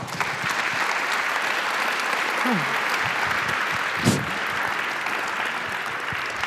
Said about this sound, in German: Bitte einen schönen runden Applaus für WAM, Rena und Padelun.